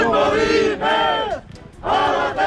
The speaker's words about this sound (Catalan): Així protestaven avui a Gandesa una trentena de persones contra les obres de Naturgy, que està modificant una rotonda per facilitar el trasllat d'uns aerogeneradors a un nou parc eòlic.